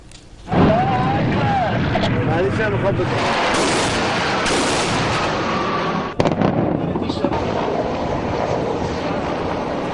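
Loud, dense gunfire and artillery roar almost nonstop for about ten seconds during the third and final day of military drills by naval, air and ground units of Iran's Islamic Revolution Guards Corps in the Persian Gulf and Strait of Hormuz, a churning wall of bursts and cracks, with one especially sharp blast standing out partway through.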